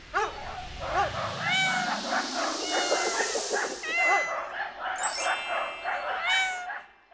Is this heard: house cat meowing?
yes